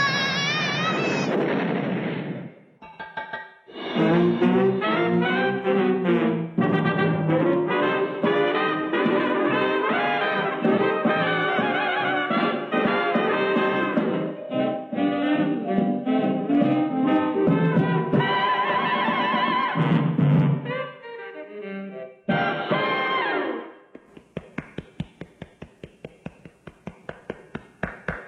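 A long stretch of loud, sustained tonal sound gives way to a few seconds of applause at the end, a quick, uneven patter of many hand claps.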